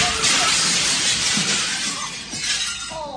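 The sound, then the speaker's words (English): A glass window shatters loudly as a mascot goes headfirst through it, a bright, sustained crash of breaking glass that keeps tinkling and spraying for a few seconds, with faint voices underneath toward the end. “Dear Romeo Void, the only thing missing from that daredevil doing a header through the window was Hans saying, shoot the glass.”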